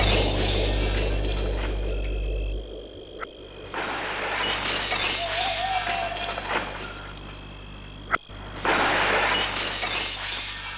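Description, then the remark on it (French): A pane of ordinary window glass in a house window smashed with a stone: sharp, loud knocks alternate with harsh bursts of shattering and tinkling glass, with no voices. “Et il va donner des coups avec sa pierre pour briser la vitre.”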